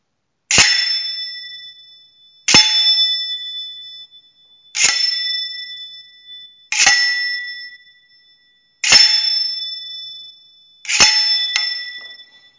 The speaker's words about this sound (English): The next one will be glissé sound, so gliding on the blade, on a foil. These will be glissé, or gliding on the blade and hitting the bell guard.